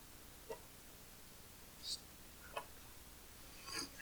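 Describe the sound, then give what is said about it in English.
A clock ticks faintly in the background, four soft, sharp clicks spaced unevenly across a few seconds over a quiet, hissy room with no clear talking. “I said, that lovely clock in the back.”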